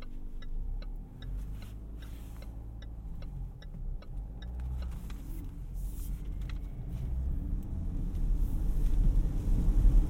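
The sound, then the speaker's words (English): Steady low road and engine rumble from inside a moving car in the rain, with a regular ticking like a turn signal for the first few seconds, the rumble swelling louder near the end. “The car filling with the sweet, sweet smell of Mexican food.”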